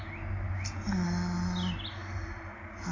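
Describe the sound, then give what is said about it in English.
A few brief, scattered bird chirps sound outdoors in a park clearing, over a steady low hum and background noise with no one talking. “Yeah, you can hear them anyway, can't you, the birds?”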